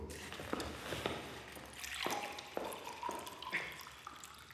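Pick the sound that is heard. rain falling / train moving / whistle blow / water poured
water poured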